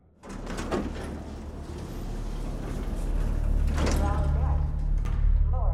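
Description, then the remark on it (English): Elevator doors slide open with a low mechanical rumble and hum that builds steadily over several seconds, punctuated by a couple of soft clunks, moderately loud. “The elevator doors open.”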